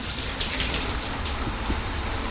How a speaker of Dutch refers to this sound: Dus het geeft wel een extra dimensie om hier te douchen. En mogen we dan stiekem een heel klein beetje even het water horen? Zonder te veel te verspillen natuurlijk.